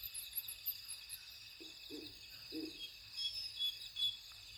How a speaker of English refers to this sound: I think I just heard a Pharaoh's eagle howl. Yes. Yes. Those deep grunts.